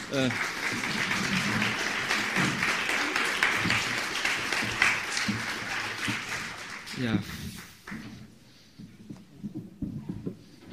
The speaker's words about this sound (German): Vielleicht mit einem kleinen Applaus, das würde